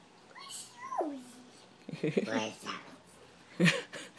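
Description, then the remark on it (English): Small, high-pitched sneezes, a couple of short sharp bursts, with a squeaky descending whine before them and quiet pauses between. “Bless you. And you sound like a little gremlin.”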